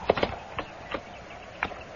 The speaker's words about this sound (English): Oh, hold still, horse. I'll mash your sides in.